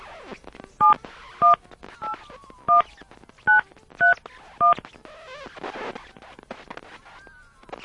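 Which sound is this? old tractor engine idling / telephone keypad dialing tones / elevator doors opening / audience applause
telephone keypad dialing tones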